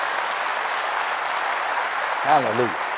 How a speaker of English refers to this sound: Give her another hand clap. Blessing.